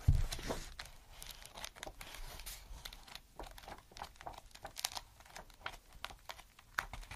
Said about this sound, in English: I've been really enjoying the sounds of pages and page turning recently of different books and such.